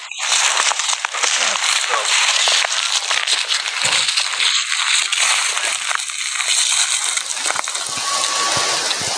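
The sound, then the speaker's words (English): Footsteps crunch steadily through snow, a loud, dense stream of gritty crackles that runs the whole time, with a faint thin whistle-like tone surfacing briefly near the end. “Sorry, this is the you can hear us walking through the snow.”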